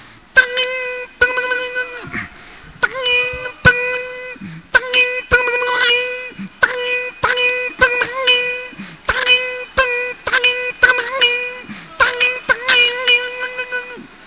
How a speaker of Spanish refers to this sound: el yunque martillo, forjando un hierro en la herrería, oyéndose primeramente la fragua y los rebotes de martillo sobre el yunque. Una fragua antigua de fuelle, encendiendo el chorro de aire sobre el carbón encendido. Sonido del yunque martillo.